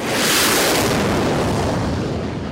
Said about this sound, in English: They took us out along newly extended runways to watch a steady series of planes taking off. The roar was deafening.